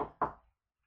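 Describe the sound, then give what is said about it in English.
Two quick knuckle raps on wood, fairly loud, each a hollow thud with a short decay, the second following about a fifth of a second after the first, then silence. “Knock on wood. Knock on wood.”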